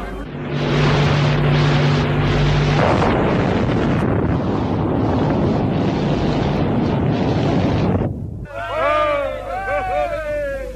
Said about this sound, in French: le 13 février 1960 à Reagan à 7h du matin, devant des journalistes installés à 20 km du point zéro, où doit avoir lieu à 7h très précisément, une explosion 4 fois plus puissante que celle d'Hiroshima.